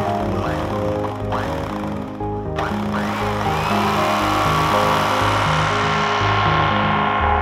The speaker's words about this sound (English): Left to my own devices with half the cutlery drawer scattered across the floor, I discovered the sound of an electric carving knife was the most beautiful sound in all the world.